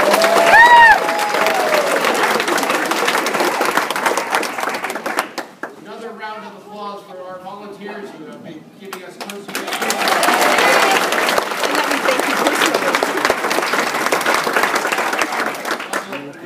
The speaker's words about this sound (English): First, like yesterday, let's start off with a big round of applause for the kids who are real heroes.